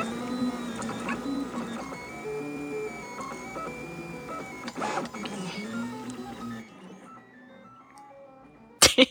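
A printer's stepper motors whine and chirp in shifting tonal pitches, almost melodic, with mechanical whirring underneath, then the motors quiet down before two sharp clicks near the end.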